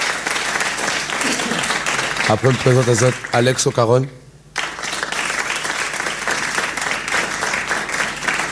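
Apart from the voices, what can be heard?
audience applause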